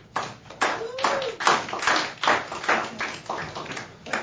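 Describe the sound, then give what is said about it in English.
A woman's hands clap repeatedly in a steady, fairly brisk rhythm for about four seconds, each clap a sharp, bright smack, with a faint voice murmuring briefly underneath. “Does she have to clap twice as long?”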